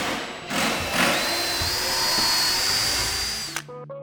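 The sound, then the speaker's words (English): A power drill whirs steadily for several seconds as a group working in small teams assembles benches and a bookshelf, its high motor whine rising slightly, then winds down and stops abruptly near the end. “Everyone's using drills and drivers.”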